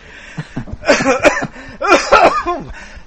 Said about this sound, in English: My God, where's that coming from? It's like an old smoker's cough, and I haven't smoked in years.